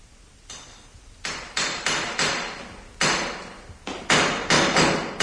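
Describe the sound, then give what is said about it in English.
Loud hammer blows ring out in a large car repair garage in Sloane Mews, about a dozen sharp metallic strikes in uneven bursts, each one clanging and then fading before the next. No one speaks. “It's a large garage. They do a lot of repair work.”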